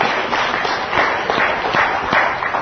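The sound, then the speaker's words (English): An audience claps for a woman who has just shared her story. Many overlapping claps form a steady, dense burst of applause that blends into a continuous rustling wash, holding at a fairly even, moderate loudness throughout. “Pray, give her a great big hand clap.”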